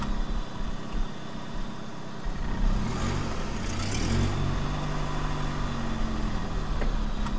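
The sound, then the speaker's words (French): A car engine runs steadily, a low droning rumble with a brief rise in pitch partway through, with no voices, as the car then stalls and stops. “Pourquoi la voiture s'arrête?”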